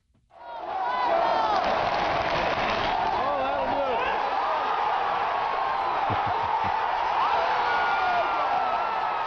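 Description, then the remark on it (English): A baseball stadium crowd at Fenway Park, recorded on video by a member of the crowd, bursts into cheering at the final out of the 2004 World Series, swelling to a loud, sustained roar within a second and holding it throughout, thick with overlapping screams, shouts and whistles. “This is from a video taken by a member of the crowd.”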